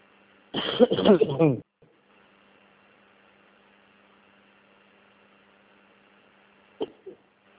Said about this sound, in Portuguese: Eu tô com alergia do cigarro, mas continuo fumando. Essa tosse minha é de cigarro.